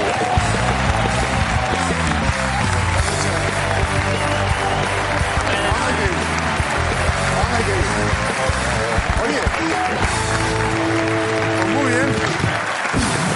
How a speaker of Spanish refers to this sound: Yo me lo he imaginado, porque mira, la perra se llama Adele. Le flipan los aplausos. Ha oído aplausos, ha dicho, pues para mí todos.